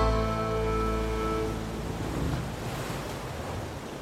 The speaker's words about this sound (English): As she stepped onto the rocky shoreline by the lab and felt the waves of the Atlantic Ocean lapping at her feet for the very first time, Rachel felt like she'd entered a whole new world.